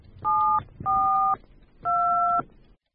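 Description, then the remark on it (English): Three phone keypad tones beep one after another, each a steady two-note chirp lasting about half a second, separated by short pauses over a low background hum. “I must call him and find out where he is.”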